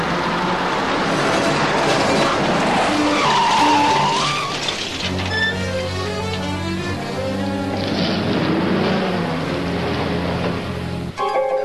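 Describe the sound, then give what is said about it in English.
Tires skid and squeal loudly on a car, then a farmer's heavy tractor engine roars as the tractor is rammed at the car on private property, with a deep, steady droning rumble that builds and cuts off abruptly. No one speaks. “Just who do you think you are, ramming that machine at my car on my aunt's private property?”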